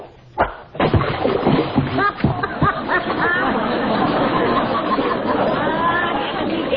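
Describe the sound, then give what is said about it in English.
A sudden, heavy splash of a fishing cast hitting water, loud, followed by a steady background of overlapping voices and crowd chatter. “That was as big a splash as I ever saw.”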